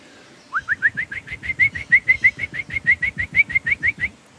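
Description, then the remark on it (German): A person imitates a black woodpecker's flight call with a rapid, even series of about twenty short, bright whistled notes, delivered steadily for roughly three and a half seconds. “Ich könnte jetzt einen Schwarzspecht nachmachen, so einen typischen Ruf, während er fliegt.”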